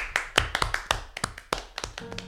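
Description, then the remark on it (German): Sparse applause: a dozen or so sharp, crisp hand claps in an uneven rhythm over a couple of seconds, fairly quiet, with no one talking. “Applaus.”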